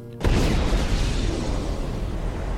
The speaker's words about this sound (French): Puis là, what a goddamn d'explosion. Le monde dit qu'ils ont entendu le coup jusqu'à l'île Brion.